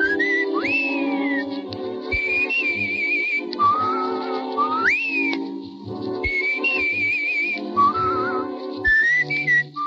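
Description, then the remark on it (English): Dick Powell whistles the jaunty, sliding theme tune of the radio show Richard Diamond, Private Detective, in clear phrases over soft instrumental backing, the melody rising and falling steadily for the whole stretch, with no talking. “Dick Powell starred in the leading role, and its theme, Leave It to Love, was whistled by Powell at the beginning of each episode.”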